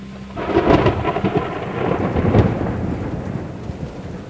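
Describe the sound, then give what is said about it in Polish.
A thunderstorm with steady rain, a deep rumble of thunder swelling early on and another surge midway, loud before easing into a continuous rainy wash. “Burze, chmury, słońce.”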